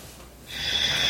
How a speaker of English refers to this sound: I'm breathing in. I'm inhaling for a long period of time, just trying to soak that thought in.